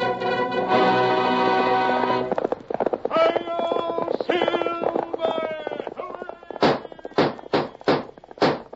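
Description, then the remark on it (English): The Lone Ranger's horse Silver gallops in loud hoof thuds near the end of the opening of The Lone Ranger old-time radio program, following a stretch of voices and a sustained tonal sound. The hoofbeats land in a quick, slightly uneven rhythm. “Fiery horse with the speed of light, a cloud of dust, and a hearty hi-yo, Silver, the Lone Ranger.”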